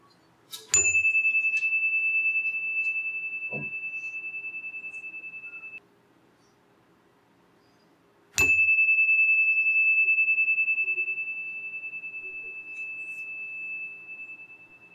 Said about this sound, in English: Let us now embrace a moment of silent meditation. I'll ring the chime to begin and at the closing.